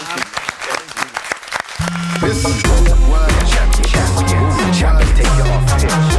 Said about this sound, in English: So, guys, let's give a big round of applause for Alex the World.